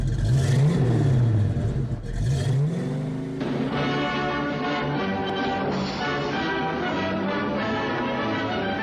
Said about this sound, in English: who owns a 1973 Mustang Mach 1. This black beauty is mostly stock, but outfitted with, in his words, what the factory should have supplied in the first place, but was no longer available. The 429 Cobra Jet V8.